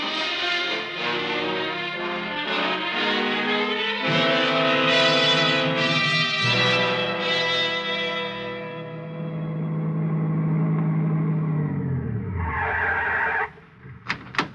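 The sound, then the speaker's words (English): A car engine revs loudly and strains as it pulls away to drive down the road to the gas station, its pitch sliding downward as it drives off and fades, with a brief hiss near the end and no voices. “You get in the car, drive down the road to the gas station, and use their phone, huh?”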